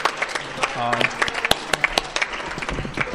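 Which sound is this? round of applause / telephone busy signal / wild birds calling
round of applause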